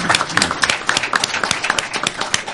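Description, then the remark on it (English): Hand clapping fills the whole stretch: sharp, crisp claps in a rapid, uneven rhythm, some overlapping, steady and fairly loud, with no voices on top. “Ooh, nice clap.”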